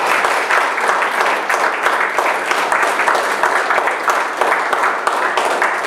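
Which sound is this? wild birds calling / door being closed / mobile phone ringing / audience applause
audience applause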